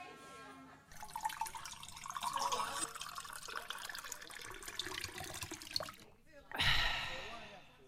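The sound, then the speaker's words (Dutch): Water splashes steadily into a glass for several seconds, fairly loud, then stops; after a short pause someone drinks it, with a brief burst of gulping and a breathy exhale. “Inschenken en opdrinken.”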